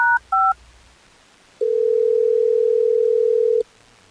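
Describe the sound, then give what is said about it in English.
A radio show on Hot 101.5 places a call to a listener: two quick keypad tones up front, a short pause, then one long, steady, loud ring tone that hums for about two seconds before cutting off. No one speaks. “Well, let's get Bree on the phone so we can figure this out”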